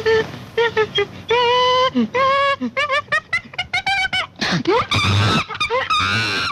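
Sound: monkey calling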